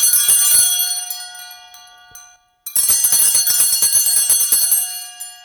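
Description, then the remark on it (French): A small church hand bell rings rapidly and continuously during the Gloria of the Easter Vigil at Saint-Jean de Chantal church on Île Perrot, bright and metallic with dense overlapping strikes, pausing briefly midway before resuming just as vigorously and fading out at the end. “Et durant tout le Gloria, on entend cette clochette assez longuement.”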